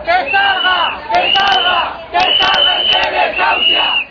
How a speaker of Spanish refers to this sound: En la concentración se escucharon gritos de rabia por la muerte de Amparo